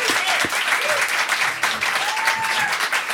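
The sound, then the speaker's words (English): At a sold-out show at Rock on the River, a crowd applauds the record company steadily, dense clapping filling the whole stretch at a strong, even level, with a few scattered whoops and cheers rising above it. “Let's hear it again for the record company.”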